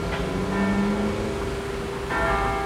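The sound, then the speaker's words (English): A special bell of St. Boniface rings out, as it does every day, with rich sustained overtones, one strike blooming and lingering before a second fresh strike near the end, fairly loud against a steady background hum. “And so every day when a special bell from St. Boniface rings,”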